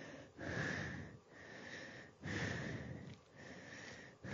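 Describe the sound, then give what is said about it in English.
Heavy, close-up breathing right against the microphone, a steady rhythm of rough, hissing inhales and exhales, roughly one breath per second, with no talking. “I can hear heavy breathing.”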